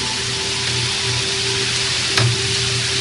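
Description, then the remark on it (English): Steady rain hisses without a break, a dense, even wash of patter with a faint low hum beneath it and one brief sharper tap near the end. No one speaks. “While you hear the rain, the tranquility of nature wending its way through this broadcast.”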